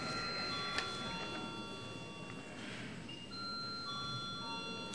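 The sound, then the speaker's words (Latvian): A parliamentary chamber bell rings continuously for several seconds before a vote, a steady electronic tone that shifts pitch slightly partway through, over a low murmur of room noise. “Lūdzu zvanu.”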